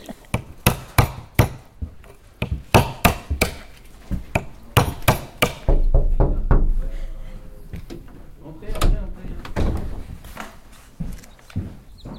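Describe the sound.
Walnuts and hazelnuts being cracked at a wildlife rescue centre: a steady series of sharp knocks and snaps, some single and some in quick pairs, with a faint murmur of voices in the background.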